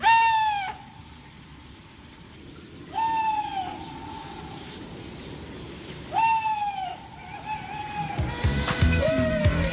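An owl hoots four times at a steady, unhurried pace, each call a clear, tonal note that starts sharply and trails off, over a quiet background with no talking.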